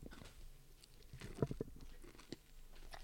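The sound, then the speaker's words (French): Biting and chewing of a soft donut, with moist mouth sounds and a few sharper crunchy bites clustered near the middle, no talking. “Il y a de la mâche. C'est croquant. C'est moelleux.”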